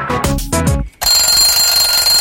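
alarm clock ringing

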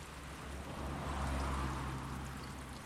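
flowing water

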